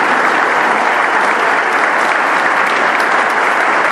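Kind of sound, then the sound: crowd, applause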